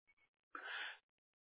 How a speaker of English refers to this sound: Bless you.